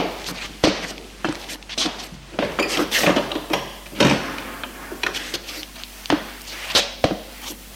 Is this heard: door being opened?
yes